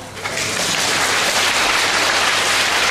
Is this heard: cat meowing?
no